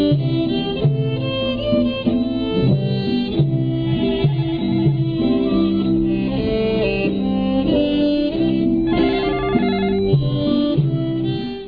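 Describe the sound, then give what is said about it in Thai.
A phone rings with an incoming call, playing a continuous melodic ringtone at steady volume for about twelve seconds, with no one speaking over it. “โทรศัพท์เข้ามาหนึ่งสายญาติโยมได้ขอรับโทรศัพท์สักครู่ก็แล้วกัน”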